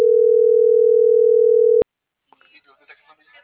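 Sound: phone call ringing tone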